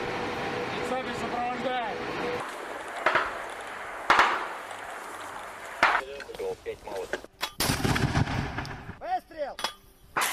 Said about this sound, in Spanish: Dice que generalmente son chicos de pueblo que llegan al frente, no saben manejar una AK-47, no saben ni lo que es y ahí están disparando. Radiotelegrafistas, tiros, disparos de artillería más gruesa. Así muere la gente, así suena la guerra.